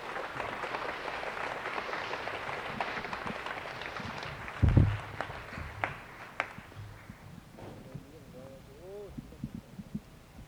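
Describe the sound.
An audience applauds a man being introduced, a dense, steady wash of clapping that thins out after about five seconds, broken by a single low thump. A voice speaks briefly as the clapping dies away.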